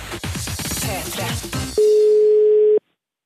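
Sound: telephone ringing tone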